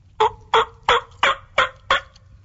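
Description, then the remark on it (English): A series of six evenly spaced, raspy turkey yelps made on a diaphragm call in a basic yelp cadence, steady and fairly loud, with no talking. “I would just work that five key cadence. Okay. The yelp and that.”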